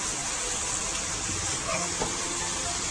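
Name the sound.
beef sizzling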